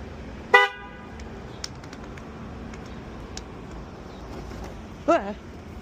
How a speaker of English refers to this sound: All right, guys, this is my first Waymo car. I'm gonna make it honk.